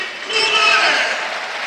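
A football crowd at the Tardini stadium applauds substituted players Cutrone and Bernabé, a dense, steady wash of clapping and crowd noise that swells slightly after the start and holds at a fairly loud level throughout.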